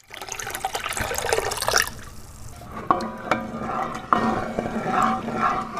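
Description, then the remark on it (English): During mashing at the Black Horse Brewery in the Magaliesberg region, Gauteng province, water pours loudly into a big copper vat for a couple of seconds, then quieter sloshing, drips and a few sharp metallic knocks as the mixture is stirred with a giant wooden paddle. “pours water into a big copper vat and stirs the mixture with a giant wooden paddle.”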